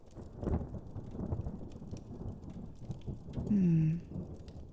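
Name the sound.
thunderstorm with heavy rain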